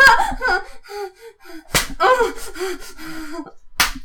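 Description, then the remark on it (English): A belt strikes a person twice in a few seconds, each a sharp, loud smack. Between the blows come wavering voiced yelps and gasps. “I bought this one specifically for use in the woods and also beating him.”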